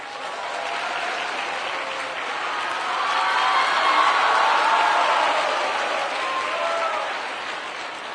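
Sustained applause from a crowd, dense clapping that swells louder toward the middle and eases slightly near the end, with no voices over it.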